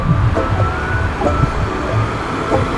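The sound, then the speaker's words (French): Loud, continuous roar of traffic speeding along an expressway in August during the holidays, a steady rumble and hiss with a faint high whine running through it and no voices. “Pas trop de voitures aujourd'hui, pas mal de voitures d'ailleurs remplies, a priori des voitures de touristes.”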